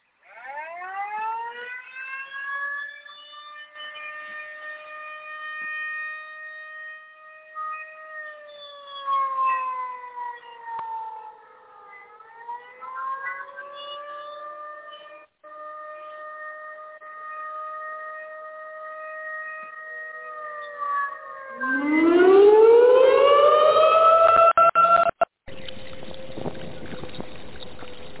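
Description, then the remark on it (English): A loud alarm siren wails in long sustained tones that slowly dip and rise, then sweeps sharply upward near the end before cutting off abruptly into a steady hum. “Let me sound the alarm.”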